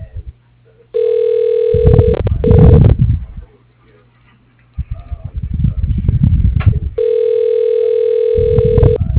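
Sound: voicemail message tone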